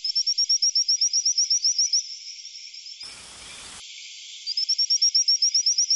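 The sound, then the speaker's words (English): High-pitched whistling calls of newly discovered frog species in Madagascar ring out as rapid trains of repeated chirping whistles, pausing midway where a short hissy burst of noise cuts in, then resuming just as fast and loud. “And researchers have discovered seven new species of frogs in Madagascar, which they say make high-pitched whistling calls like sound effects from a famous sci-fi show.”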